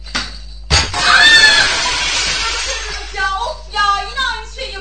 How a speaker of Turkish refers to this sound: Eyvah. Cam kırıldı.